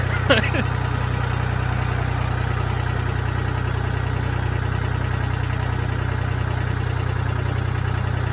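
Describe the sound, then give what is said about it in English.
An old tractor engine chugs steadily as a man rides the tractor, a low, continuous rumble with a faint metallic rattle, holding an even idle throughout with a brief clank near the start. “People listening were watching some guy ride his old-timey tractor, which it looks fun.”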